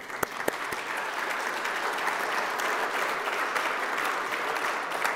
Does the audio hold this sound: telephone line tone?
no